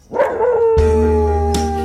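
A dog howls loudly and close, its drawn-out wavering cry blending with a long, steady sung note that sustains beneath it.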